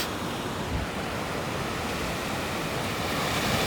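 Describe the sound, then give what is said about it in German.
Waves wash onto the beach at Zinnowitz on Usedom on 21 June, in summer weather of 28 degrees, in a steady, broad roar of surf, fairly loud and even throughout, with a soft hiss across the whole range and no voices. “So klingen die Wellen in Zinnowitz auf Usedom.”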